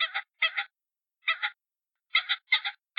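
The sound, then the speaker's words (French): A voice imitates a hen pheasant's clucking: crisp double-note calls repeated in short bursts with brief silent gaps, clear and alone. “… se mit à imiter le gloussement de la poule faisane.”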